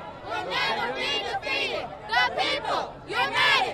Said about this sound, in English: Picture perfect, save for the hundreds of protesters lining the roadway, booing Browner as he rode on by.